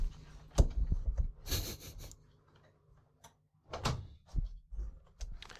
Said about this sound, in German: Warte mal, ich muss sagen, die Tür zumachen.